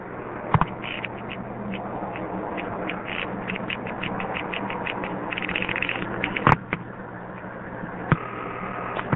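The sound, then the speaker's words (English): Telephone exchange panel and step-by-step pulsing on a call dialed to a Seattle number: fast bursts of mechanical clicking over a steady line hum, with a few sharper, louder clicks standing out, all sounding narrow and phone-line filtered. “I'm not really that interested in the touchtone, but in the fact that most calls to Seattle go through 210, and the second one of which lets you hear the panel pulsing and also step pulsing beautifully.”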